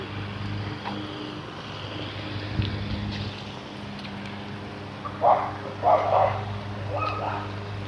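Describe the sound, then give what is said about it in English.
A big poodle barks three times in quick, uneven succession over a steady low rumble of wind and engine noise. “get out of the way of this dog here. Poodle man coming. Big poodle.”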